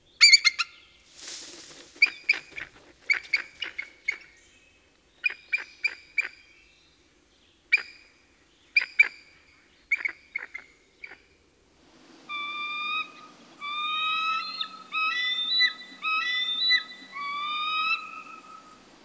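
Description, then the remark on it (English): A bald eagle gives bursts of sharp, high chirping and squawking calls in rapid clusters, then shifts into a longer series of wavering, whistled wailing cries, loud with no talking. “see if you can guess what's making the chirping, squawking, and wailing sounds.”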